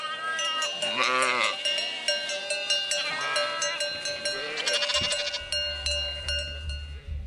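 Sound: sheep bleating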